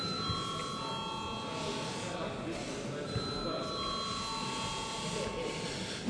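A parliament voting bell, rung when deputies call for a vote on a budget amendment, rings continuously, a steady, buzzy high-pitched electric tone that holds at even loudness for about six seconds over a low murmur of background noise.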